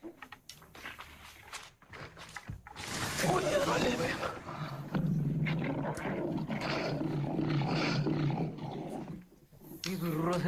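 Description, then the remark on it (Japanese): Deep, rumbling roars and growls from fifteen lions, sustained and loud, with several overlapping vocalizations rising and falling over a rough outdoor background, brief clattering sounds at the start. “ライオンに襲われたことがある動物は、これがどれほど危険な状態なのかよく知っている。”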